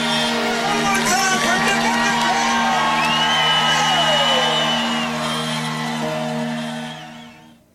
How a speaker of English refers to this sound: The feeling coming down the finish line at a Leaky Drive, it's just an awesome experience. With the crowd there, all the excitement, the noise, and the announcers announcing all that, the adrenaline just gets flowing.